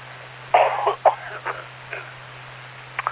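A short run of coughs from a person with a little congestion: a strong double cough, then a few smaller, rougher coughs spaced apart, with a faint steady hum behind them and no talking.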